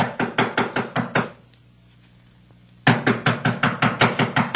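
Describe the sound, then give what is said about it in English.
Rapid, loud knocking on the door of a woman's room, who does not answer: a quick burst of about six raps, a short pause, then another insistent run of eight or so, with no voices. “I've been knocking on the door, and she doesn't answer.”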